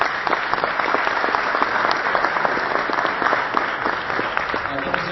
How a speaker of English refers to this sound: Please give a big round of applause to these amazing panelists.